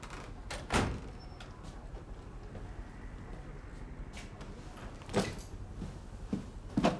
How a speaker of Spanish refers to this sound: Sí. Puede entrar si quiere ya. Cierra la puerta, por favor.